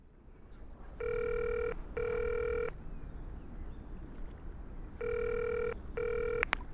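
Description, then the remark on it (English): A telephone rings for an emergency phone call, in two pairs of electronic double trills with a pause between the pairs, clear over a low background hum, with no talking. “Listen to the emergency phone call about Johnny.”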